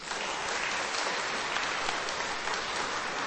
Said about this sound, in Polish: Brawa dla nich.